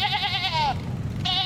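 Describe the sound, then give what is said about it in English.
A sheep bleats in a long, quavering cry that wavers and trails off, followed after a short pause by the start of a second bleat. No one speaks. “On the way, he hijacked a sheep.”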